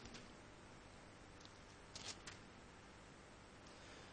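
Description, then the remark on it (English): A quiet, papery rustle of a Bible page being turned to Colossians 3, with a few brief crinkly bursts clustered near the middle and faint scattered handling sounds around them, no talking. “Turning the page maybe just a little bit here.”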